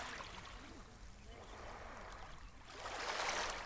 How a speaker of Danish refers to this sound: Jeg tager færgen derud.